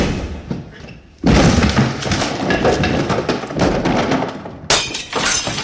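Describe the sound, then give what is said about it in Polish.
A glass ball with pictures inside smashes suddenly and loudly after a brief quiet moment, followed by a sustained crash of breaking glass and scattering shards, with a second sharp burst near the end. “No i zobacz, co zrobiłeś. Zniszczyłeś koledze szklaną kulę z obrazkami.”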